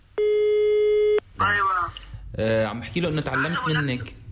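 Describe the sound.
A steady electronic telephone tone sounds for about a second, loud, then cuts off as a man begins speaking over the line, during a phone call home from Germany to his parents in Syria.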